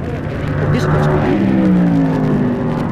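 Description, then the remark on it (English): A rail dragster roars past at high speed on a drag strip, its loud engine filling the whole moment, the pitch sliding downward as it rushes by. “Man, that rail passed us like he'd been shot out of a cannon.”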